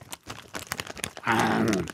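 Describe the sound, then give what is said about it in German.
Close, crisp crunching of someone chewing cookies in quick irregular bites, followed by a louder muffled voiced hum, like a contented mumble through a full mouth. “Man muss was kauen als Kautenor. Und dann geht es schon allein. Her mit den Keksen.”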